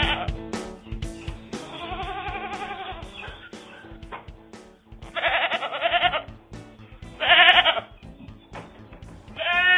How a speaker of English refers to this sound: I have three goats, a mama and two twin daughters.